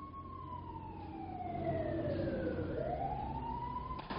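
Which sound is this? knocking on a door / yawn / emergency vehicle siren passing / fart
emergency vehicle siren passing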